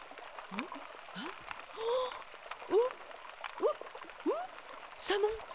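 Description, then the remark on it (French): Rising river water seeping up on a Loire River sandbank, making a series of small bubbling, gurgling blips about once a second over a soft background hiss. “Ça monte, c'est en train de monter. Oh, ah ouais, ça monte, l'eau monte.”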